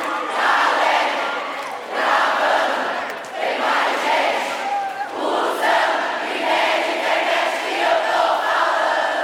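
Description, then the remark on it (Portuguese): A large crowd shouts a chant in unison, loud and sustained, with repeated rhythmic surges of massed voices filling the space like a packed live show. “Mais forte, mais forte, mano! E se o Wi-Fi!”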